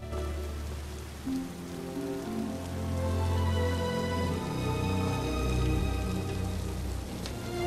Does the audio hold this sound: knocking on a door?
no